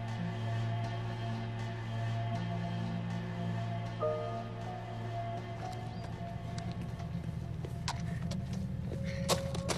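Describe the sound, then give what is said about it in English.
A silver car, driven by a woman, sweeps around the road leading to a house at sunset, its engine giving a steady, low droning rumble throughout, with some lighter rattling and clattering noises building toward the end. “A silver car now sweeps around the road that leads to Jeff's house.”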